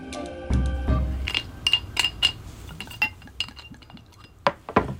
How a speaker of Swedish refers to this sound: Skåla. Skål.